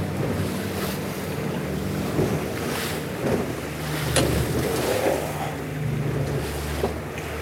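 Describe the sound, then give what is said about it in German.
A fishing boat's engine drones steadily as it moves into the fairway toward the channel edge, while waves slap and wash against the hull, with gusts of wind buffeting the microphone; no one speaks. “Wir fahren jetzt erstmal ins Fahrwasser so an die Kante ran.”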